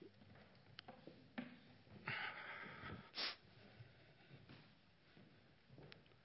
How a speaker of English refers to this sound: So I've discovered that when I speak and I'm nervous, I sniff a lot. So my apologies. I don't know what it is that makes my nose run when I'm nervous.